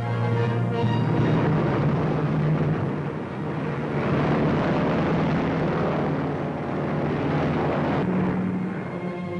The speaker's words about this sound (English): Powered with four 18-cylinder motors, the 80,000-pound superliner wings its way eastward from California to Washington, D.C.